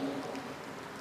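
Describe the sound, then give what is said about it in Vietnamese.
Steady, dense hiss of heavy rain pouring down on a Sunday, a continuous wash of sound with no pauses or voices, moderately loud. “Cho nên số lượng người đi chùa trong cái ngày chủ nhật mưa tầm tã hôm nay chắc chắn là ít hơn những ngày trước, những tuần trước.”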